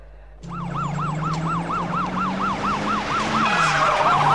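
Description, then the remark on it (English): A police siren wails in fast, rapid yelping cycles, loud, over the rumble of a vehicle engine as police speed into a racecourse car park. No voices. “Axel, Billy and Taggart speed into the racecourse car park and bustle through the entrance gates.”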